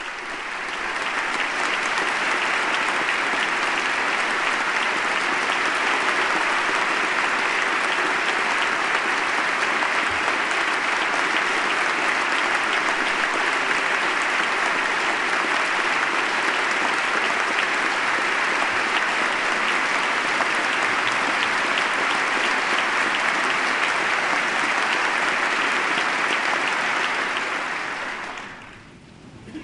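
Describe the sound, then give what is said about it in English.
Sustained, loud applause from members of Congress and other notables fills the congressional chamber at the State of the Union address for nearly thirty seconds, honoring a family for their late son and husband's gallantry in Iraq; a dense steady roar of clapping holds level before tapering off at the very end. “They're being applauded, of course, in honor of their late son, husband's gallantry in Iraq.”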